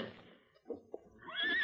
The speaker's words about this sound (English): There's a horse beyond that rock.